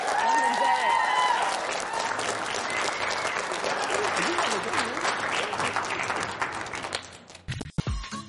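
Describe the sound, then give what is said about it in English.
A crowd applauds loudly and steadily for Rashawn Melvin, dense clapping with scattered whistles and cheers, holding strong for about seven seconds before tapering off and ending with a few last claps. “All right, guys, help me give Rashawn Melvin one more big round of applause.”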